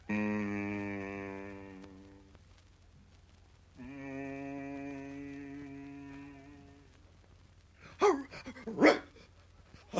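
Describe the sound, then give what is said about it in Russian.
A dog lets out two drawn-out, whining howls, then two sharp, loud barks in quick succession near the end, and no one speaks. “Ну что ты, пес, на меня уставился во все глаза?”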